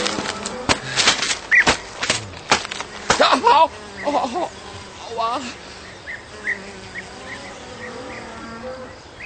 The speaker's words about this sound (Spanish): es lógico que las moscas le molesten y se ponga de mal humor.